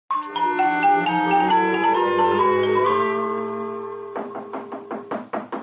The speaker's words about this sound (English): Yes? Yes, come in! Don't tear the door from its very hinges.